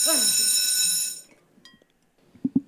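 A loud, harsh buzzer bell in a principal's office, set off by a person being sat on it, rings steadily for just over a second and then cuts off, followed by a brief faint electronic chirp and two soft low thumps.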